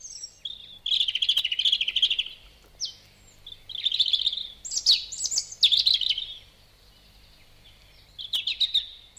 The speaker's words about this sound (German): Die Rotbrüstli sind nicht nur alleine unterwegs, sie singen auch im Winter, vor allem in der Dämmerung. Im Winter singt ja sonst kaum ein Vogel und darum fällt das fröhliche Lied auf.